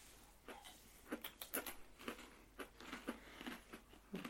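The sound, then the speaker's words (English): Quiet crunchy munching as people chew a fortune cookie: a series of brittle, irregular crackling bites, roughly two or three per second, with no talking. “This is the best podcast of just like moments of people just quietly munching.”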